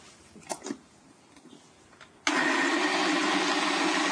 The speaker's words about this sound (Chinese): 还有，如果说你自己这个煮出来的南瓜的这个浓度哦，就是说太稠的话哈、哦，放到果汁机里面如果搅不动怎么办？你可以加一点热开水，好、哦，可以加一点热开水，哦、好。